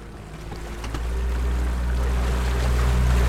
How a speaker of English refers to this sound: It's early morning in May, and a cold fog hangs low above the water. Ari Friedlander kicks the engine of a 20-foot inflatable boat into gear for the final day of whale hunting season.